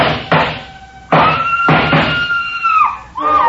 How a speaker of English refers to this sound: A scream filled the house, high and frenzied.